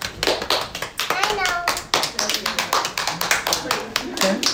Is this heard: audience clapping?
yes